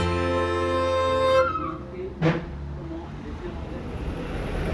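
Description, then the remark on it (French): Double-decker buses in Dublin, Ireland, pass by with a loud, droning engine hum that cuts off abruptly, followed by a sharp clunk and steady street rumble. “là on laisse passer quelques bus à 2 étages qui sont aussi un marquage de la géographie dublinoise, à la Britannique.”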